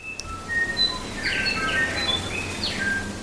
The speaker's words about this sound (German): Ja, und auch Flora und Fauna bereichern die Kulisse. Also man kann den Gesang von Tuis und anderen Schmuckvögeln hören, die durch die Wälder tönen.